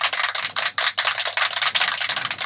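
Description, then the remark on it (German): A short burst of applause played as a sound effect, dense crackling claps blending into a steady, bright wash of noise that holds for a couple of seconds with no voices. “Kurzen Applaus für unseren leitenden Redakteur Bass.”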